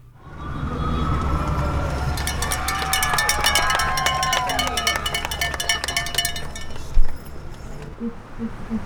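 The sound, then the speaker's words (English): On a nurses' picket line on a Friday amid stalled labor talks, cowbells clang in rapid, uneven bursts over a steady rumble of traffic, with passing cars honking and nurses calling and cheering throughout, ending in a sharp thump. “HPR's Mark Liddell captured some audio from the line on Friday of cars honking, cowbells clanging, and nurses on the line.”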